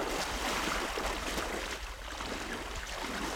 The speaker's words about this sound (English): wades into Naku Bay until the water is above his waist. The water's definitely been warmer than the air. That doesn't change the fact that it's cold.